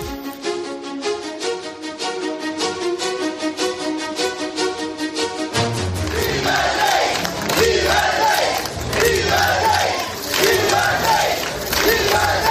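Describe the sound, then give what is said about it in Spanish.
A large crowd claps and chants slogans in rhythmic unison, including "¡viva el rey!" and "¡viva España!", then breaks into a louder, fuller roar of cheering and shouting that carries on steadily, welcoming Spain's king emeritus as he gets out of a car at the Club Náutico in Sanjenjo, Spain, in the morning. “Bueno, pues con aplausos y con estos vítores que estás escuchando, ¡viva el rey!, también gritos de ¡viva España!, ha sido recibido esta mañana en el Club Náutico de Sanjenjo el rey emérito”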